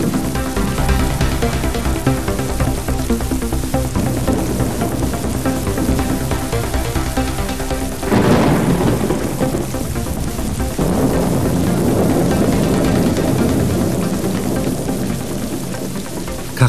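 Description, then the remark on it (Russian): A steady thunderstorm on a rainy, stormy evening, with lightning flashing, heavy rain roaring throughout and a loud rumbling thunderclap breaking in about halfway, then rolling on. Nobody speaks. “Сверкали молнии, гром гремел.”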